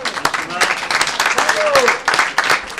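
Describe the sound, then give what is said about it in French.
An audience applauds a dance performance during a live radio broadcast, a dense wash of many hands clapping at once, with a few voices calling out and cheering over the top throughout. “Je crois qu'on peut encore applaudir.”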